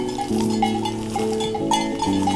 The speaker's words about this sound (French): C'est la musique de nos montagnes. La musique du Piémont. Ces brebis